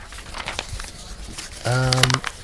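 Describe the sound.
Paper being crumpled to throw it away, a run of dry, irregular crinkles and crackles, followed by a short sustained voiced sound near the end.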